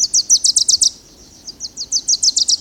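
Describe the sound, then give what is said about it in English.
A Wilson's warbler sings two rapid, chattering bursts of high, sharp notes, separated by a short pause. The notes are bright, with no other sounds. “Young male warblers, fledged in June or July, have been learning their father's songs all summer.”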